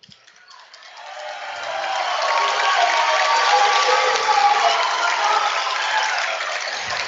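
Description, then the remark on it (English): At a basketball game, applause from the bench and the fans behind the bench as Grant Stark checks out swells up over about two seconds, then holds as a dense, steady wash of clapping and crowd noise until the end. “As Grant Stark checks out to a rounding applause from the bench and the fans behind the bench.”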